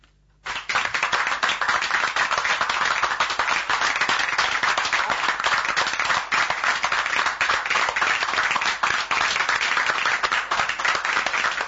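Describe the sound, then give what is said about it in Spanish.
Applause from a small group starts abruptly and holds steady, a dense patter of many hands clapping at an even, fairly loud level for about eleven seconds, with no voices. “El aplauso, se nota lo que decía.”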